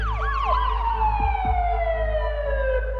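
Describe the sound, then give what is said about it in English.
Police sirens wail loudly and continuously at a family's home after a stabbing, with a steady descending tone layered over quick rising-falling yelps, against a low rumbling background and no voices. “Kirsten's parents come home to police lights and sirens.”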